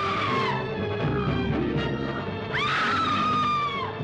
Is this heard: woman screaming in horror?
yes